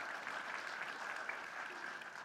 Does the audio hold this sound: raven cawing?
no